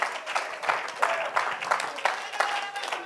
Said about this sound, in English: If you believe that, why don't you clap your hands and why don't you thank God?